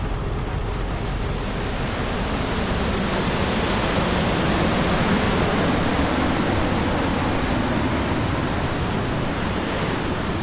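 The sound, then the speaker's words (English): A heavy coastal storm in the Pacific Northwest, on the West Coast, roars without letup, a dense, loud wash of wind and pounding surf that stays steady for the whole stretch, with no voices. “It's always the storm of the century that's hitting now all along the West Coast.”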